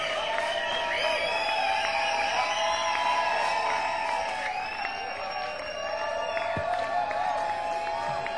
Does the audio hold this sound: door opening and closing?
no